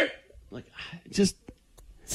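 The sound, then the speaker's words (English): A person makes a few short, harsh bark-like yelps, imitating a dog, with brief pauses between the bursts. “What's barking girl doing now?”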